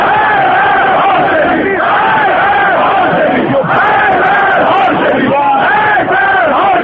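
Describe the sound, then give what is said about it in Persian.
A large crowd of government supporters chants 'death to Hashemi' against Akbar Hashemi Rafsanjani in front of the Arg Mosque in Tehran, Iran, voices rising and falling in a steady repeated rhythm, loud and continuous throughout with a brief dip midway. “منتقدان حکومتی اکبر هاشمی رفسنجانی که وی را به سکوت در برابر فتنه انگیزی مخالفان متهم می کنند، روز سه‌شنبه در مقابل مسجد ارگ تهران برای اولین بار در حیات 32 ساله جمهوری اسلامی شعار مرگ بر هاشمی سر دادند.”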